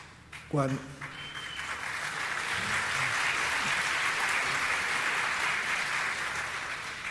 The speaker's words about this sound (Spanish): Me uno a esa ovación.